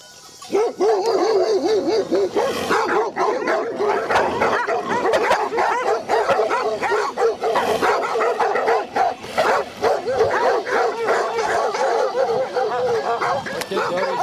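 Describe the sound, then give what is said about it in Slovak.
A pack of seven stray dogs barks and yelps nonstop, many voices overlapping into a loud, frantic chorus, with some higher whining cries mixed in and no pause throughout. “Sedem ich tam bolo. Keď bol jeden skočil, skočia všetky aj po mne.”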